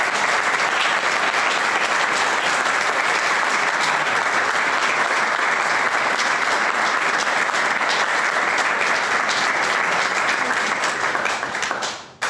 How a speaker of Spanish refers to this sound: Un fuerte aplauso, por favor.